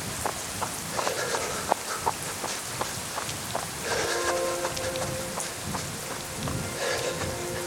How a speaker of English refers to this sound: Water comes from above and below, my feet dropping into potholes and rivulets of rain streaming down my face.